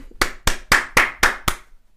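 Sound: hand clapping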